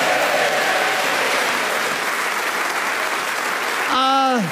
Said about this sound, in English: Give them all a round of applause.